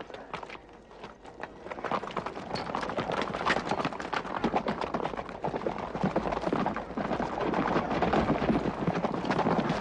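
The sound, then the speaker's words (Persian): Rapid hoofbeats of a galloping horse drum steadily for the whole stretch, mixed with a rushing, wind-like roar and no voices. “عربم را آماده کنید. من خود به آنجا میروم.”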